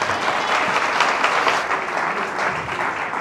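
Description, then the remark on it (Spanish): Steady, loud audience applause for the message of Apostle Henry Figueroa, with dense overlapping claps filling the whole stretch at an even level and no voices standing out. “Let's give it a hand clap. Vamos, un aplauso por favor.”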